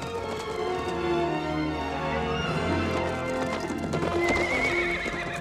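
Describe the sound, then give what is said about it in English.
Horses gallop flat out across the desert after struggling up a steep dune, heading for a narrow pass between high cliffs. A steady, rapid clatter of hoofbeats is punctuated by loud, high whinnies rising above the pounding. The sound is continuous throughout, with no talking. “The horses struggle up a steep dune, then gallop flat out until they reach a narrow pass between high cliffs.”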